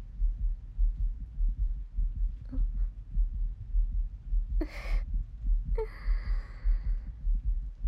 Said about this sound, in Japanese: 私の心臓、今早く動いてますよね。この部屋に開けてもらってからずっとドキドキしてますから。心音を聞かれるのなんだか恥ずかしいですね。